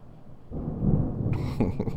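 Thunder from a lightning storm rolls in as a low, deep rumble, swelling after a quiet start and growing fuller and rougher toward the end, with no voices present.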